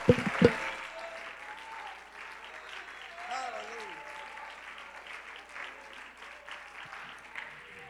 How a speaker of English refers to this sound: Why don't we just lift our voices and clap our hands?